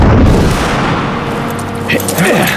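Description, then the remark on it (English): A loud, booming blast from Pickett's shotgun with a dense, rumbling tail that fills the whole moment, and a brief voice rising near the end. “That was Pickett's shotgun.”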